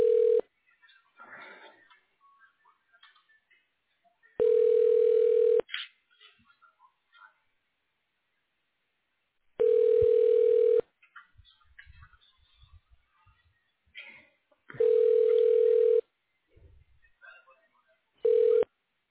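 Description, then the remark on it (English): A phone line rings back over a narrow telephone connection as a call to an outpatient office is transferred to a manager's phone, a steady tone that pulses about every five seconds, with faint line noise and soft clicks between the rings. “I'm going to send you to her phone. Leave a voicemail, okay?”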